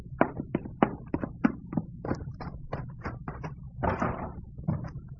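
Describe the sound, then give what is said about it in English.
A door is shut and locked, producing a quick, uneven series of wooden clunks, knocks and latch rattles that run for several seconds, with no one speaking. “Heard you lock the door?”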